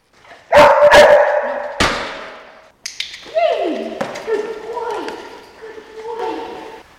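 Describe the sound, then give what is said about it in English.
A 15-month-old detection dog named Loki searches: a few sharp, loud bursts of sniffing and thumping, then a run of high, sliding whines and yelps over the next few seconds as it indicates on pot 7, which holds a bundle of cash. “So right now, the dog has found something.”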